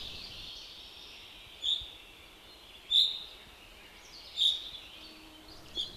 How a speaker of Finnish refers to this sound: Ja kun kesä kypsyy touko-kesäkuun vaihteeseen, alkaa täällä kuulla sellaista linnunääntä, jota ei läntisempää Suomesta löydä, Karjalan peipon hörähdystä. Silloin melkein kaikki laulajat ovat tulleet. Karjalan peippo hörisee metsissä.